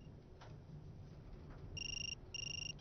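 A telephone rings in a lift with a double burst of electronic trilling, two short rings in quick succession, heard fairly quietly over a low background rumble with no talking.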